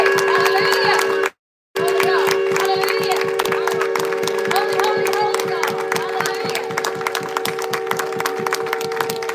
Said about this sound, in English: We want you to give the Lord, amen, a hand clap for his word tonight. Come on, let's give him a praise. Hallelujah.